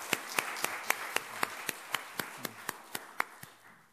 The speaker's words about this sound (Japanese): もう一度神様に感謝の拍手をしましょう。